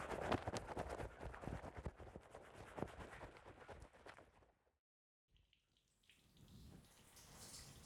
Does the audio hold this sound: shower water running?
yes